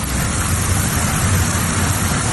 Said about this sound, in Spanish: Es la lluvia que está cayendo este Viernes Santo en buena parte de Galicia, Cantabria y País Vasco.